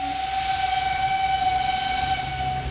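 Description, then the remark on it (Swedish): A steam train rolls along the rails with a steady rumbling hiss, while a sustained high whistle tone rings over it throughout, evoking the train that carried the Lincoln family from Springfield to the White House in February 1861. No voices. “I februari 1861 kliver familjen Lincoln ombord på det tåg som ska ta dem till sitt nya hem i Vita huset.”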